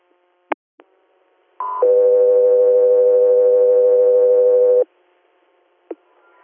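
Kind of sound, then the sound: signal or alarm, radio dispatch alert tones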